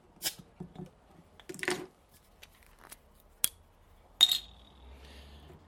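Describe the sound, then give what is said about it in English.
A 500ml bottle of Marston's Hobgoblin beer from Witchwood Brewery, Witney, Oxfordshire, England, being opened: a few metallic clicks and scrapes of the opener, then a sharp cap pop with a brief hiss, followed by soft fizzing. No one speaks. “So let's pop open this wee beastie.”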